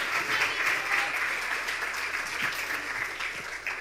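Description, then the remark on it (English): A crowd claps steadily for a guest as he comes out to join them, a dense wash of many hands hitting at once at an even, fairly loud level that holds throughout without fading. “Give a round of applause to our angel today.”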